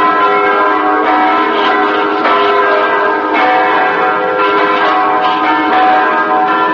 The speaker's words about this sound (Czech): Crkvena zvona, mise u katoličkim, protestantskim i evangeličkim crkvama i nešto više tišine na ulicama nego prethodnih dana čine prazničnu atmosferu Subotice.